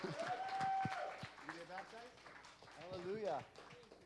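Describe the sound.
A crowd claps in scattered, uneven bursts while voices cheer and call out over it, with a whistle-like shout rising near the start; the applause sounds fairly close and lively.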